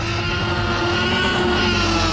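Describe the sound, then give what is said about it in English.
A loud, sustained dinosaur roar, the Tyrannosaurus rex sound effect from the film Jurassic Park, holding a deep, rumbling, growling tone with steady layered pitches for about two seconds, with no talking over it. “So this is the biggest roar from the T-Rex.”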